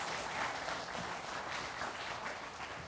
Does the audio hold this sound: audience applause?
yes